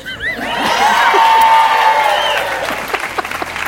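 crowd cheering sound effect

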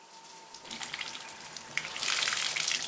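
shower water running

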